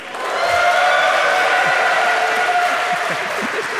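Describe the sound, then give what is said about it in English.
Steady, dense audience applause, many hands clapping at once in a loud sustained wash that holds for several seconds and tapers slightly at the end, with faint crowd murmur mixed in. “I wanted to wait until your applause was fully gone.”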